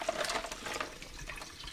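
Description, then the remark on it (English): Water sloshes and splashes steadily as sliced potatoes are added to a pot of boiling water, a continuous liquid sound with no talking. “We're simply going to add the potatoes to the pot, make sure it comes back to a boil, and then adjust the heat to maintain a very gentle simmer.”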